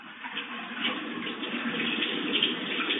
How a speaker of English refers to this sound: Rinse your hands well under running water.